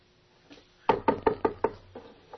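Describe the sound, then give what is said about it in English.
Knocking on a door: a quick, even run of five firm knocks, framed by a faint tap before and a couple of softer knocks trailing off after. “He knocks on the door.”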